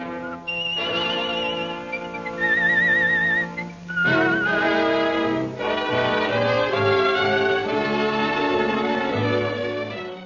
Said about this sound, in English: But several things remained constant. The distinctive Stickman logo and the saint's whistled signature tune, both devised by Charteris.